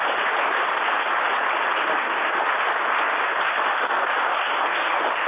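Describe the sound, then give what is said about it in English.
Steady, dense applause from an audience, honoring the head of a grant-writing committee, fills the whole stretch, a continuous wash of many hands clapping at even loudness with no voices over it. “and has spent countless hours putting grants together, writing grants, rewriting grants, and, you know, we owe him a big round of applause.”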